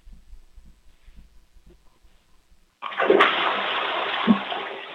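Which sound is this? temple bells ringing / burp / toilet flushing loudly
toilet flushing loudly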